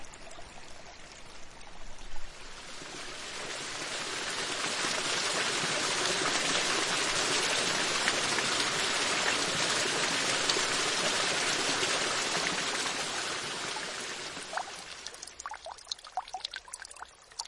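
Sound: water trickling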